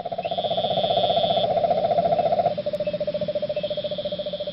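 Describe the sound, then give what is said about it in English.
Poisonous cane toads, also known as bufo toads, in South Florida calling in a long, steady, low-pitched trill of rapid pulses, holding one even pitch before dropping slightly lower partway through, with no voices. “Well, South Florida is experiencing a bit of an infestation of these poisonous toads, sometimes called cane toads. This is what they sound like.”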